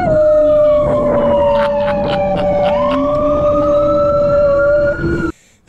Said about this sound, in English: A dog in New York howls every time he hears an ambulance.